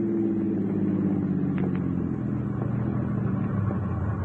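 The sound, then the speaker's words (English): A car engine idles with a steady low rumble and hum, its pitch sagging slightly toward the end without cutting out, as the car parked on train tracks at a crossing is stalled with the keys left in the ignition. No voices are heard. “You park the car on the tracks, stall it with the keys left in the ignition,”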